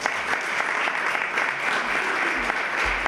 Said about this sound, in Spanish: el aplauso para ella.